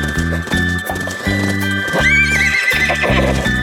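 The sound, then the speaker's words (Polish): Rhythmic horse hooves clip-clop steadily and loudly, with a high, wavering horse neigh rising over the beat partway through, set against a faint musical background. “Jak koniki!”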